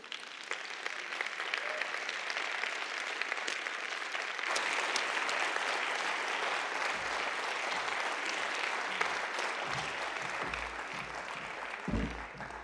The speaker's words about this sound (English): Please give another round of applause to all our presenters from this evening. Thank you.